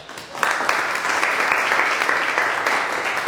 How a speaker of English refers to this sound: Clap if you are not poor, but you are not rich.